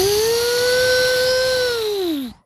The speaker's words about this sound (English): It's just the fan spin up to full speed when it turns on. It goes back to quiet. It's like starting a lawnmower.